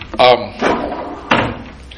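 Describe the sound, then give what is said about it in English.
A wooden door is pushed shut with a few knocking, rattling bumps spread over a couple of seconds, loud against an otherwise quiet background. “I love the voices of little children, but maybe it's better to put a little wood between them.”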